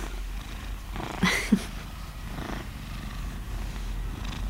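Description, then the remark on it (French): A toy purr box, soft to the touch, vibrates and gives off a steady, low, rumbling cat-like purr that continues throughout at moderate volume, with a couple of brief soft knocks partway through and no talking. “C'est une boîte à ronron.”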